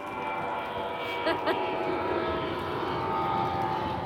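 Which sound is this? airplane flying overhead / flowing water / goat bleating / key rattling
airplane flying overhead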